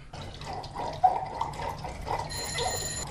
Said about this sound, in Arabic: ألم تسمع صوت الجرس؟ اذهب لترى من.